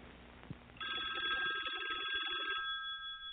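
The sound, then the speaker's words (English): A telephone rings as a first caller comes in, with a bright, buzzy electronic trill, a steady warbling tone that starts suddenly after a faint thump and continues for a couple of seconds before fading. “Oh, there's our first caller!”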